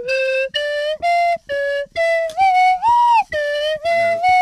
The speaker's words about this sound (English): Here he is on the Swanee whistle for the last time. But what's this song he's playing?